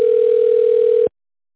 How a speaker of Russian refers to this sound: звонит. Зачем? Ну, возьми трубочку.